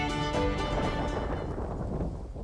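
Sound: loud rolling thunder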